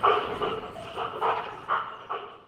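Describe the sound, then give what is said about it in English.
A dog's breathy play vocalization, a dog 'laugh': five or six rhythmic, huffing exhalations about half a second apart, moderately loud, with no talking. “And for them, it seems to be an audible signal that everything is good. Not only does it elicit play, but also if you played it in the background of dogs that were in shelters, they seem to be more relaxed.”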